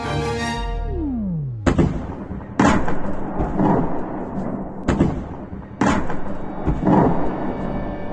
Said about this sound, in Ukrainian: Підмасованим артилерійським вогнем околиці Харкова. Серед найбільш обстрілюваних і селище П'ятихатки, наукове містечко на півночі міста. Звідти близько 25 кілометрів до кордону з Росією.